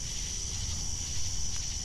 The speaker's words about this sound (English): Catching snippets of distant sound. It's so hard to pick it out from the traffic. Oh my gosh, yes. Cicadas and everything else.